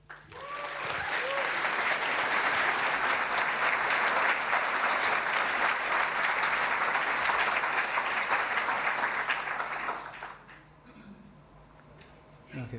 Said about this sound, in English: And I really ask you to welcome him with a heartwarming applause.